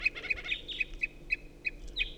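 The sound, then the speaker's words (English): An unidentified wild bird up in a tree calls with a steady series of short, high, piping toots, about three or four per second, mixed with brief scratchy chirps over a low background rumble. “So recording tooping from an unidentified bird.”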